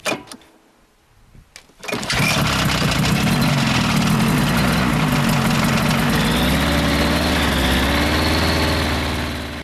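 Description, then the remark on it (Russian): A Buran snowmobile engine roars to life after a brief quiet moment, then holds a loud, steady, buzzing rumble with a droning low hum that continues to the end, at the remote Kozheozersky monastery. “Буран, поезжай.”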